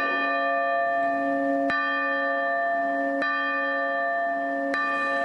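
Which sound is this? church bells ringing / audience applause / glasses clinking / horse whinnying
church bells ringing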